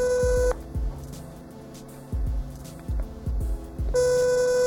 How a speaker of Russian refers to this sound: На телефон звоночки.